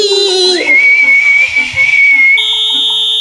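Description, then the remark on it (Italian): A single long referee whistle blast that swoops up in pitch, holds steady and loud for a couple of seconds, then jumps to a higher, shriller tone before ending. “Tavola fischiettante, vieni anche tu a farci da arbitro.”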